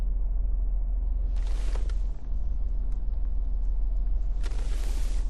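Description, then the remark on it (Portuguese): Two cars roll up with a steady, heavy engine rumble, tires hissing louder twice as they pull in and park. No one speaks. “Dois carros estacionam e empurram um homem.”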